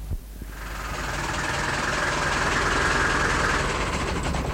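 A heavy lorry's engine idles steadily as traffic police stop it on a street closed to lorries, a continuous low rumble with a rough mechanical texture that holds evenly throughout, with no voices.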